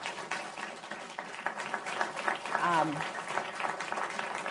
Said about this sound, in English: Wow, let's give the panel a round of applause.